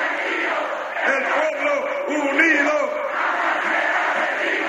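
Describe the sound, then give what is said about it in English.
A large crowd of President Chavez's supporters in Caracas chants a cheer in unison, led by the president at a night celebration, many voices rising and falling together in a loud, steady rhythm that fills the whole few seconds; the cheer means "The people, united, will never be defeated." “And so the president led his followers in a cheer.”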